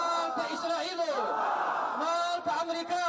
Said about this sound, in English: The protesters waved Palestinian flags and chanted slogans against Israel and the United States, saying they will stand with their brothers and sisters in Palestine forever.